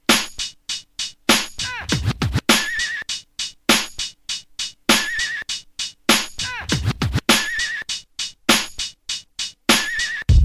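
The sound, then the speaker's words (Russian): A horse neighs and whinnies in short, wavering bursts, looped into a fast repeating rhythm with sharp scratchy percussive hits; loud, with no talking. “Вот, Алешенька, тебе богатырский конь.”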